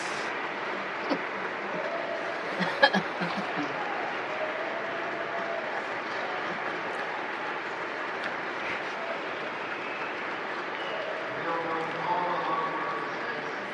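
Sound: audience applause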